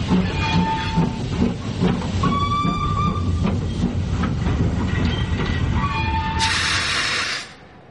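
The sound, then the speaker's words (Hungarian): A train rolls steadily along the rails with a loud rumble and rhythmic clatter, thin metallic wheel squeals rising now and then, and a burst of hissing air near the end before it cuts off. “Virítós kartonpongyolában várt a vonatnál.”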